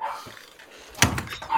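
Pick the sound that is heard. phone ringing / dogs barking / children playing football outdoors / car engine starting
dogs barking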